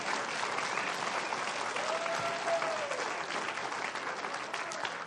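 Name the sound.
audience applauding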